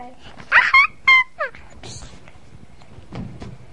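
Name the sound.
dog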